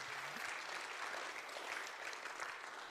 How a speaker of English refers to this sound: So all of us should give a round of applause to each other for that.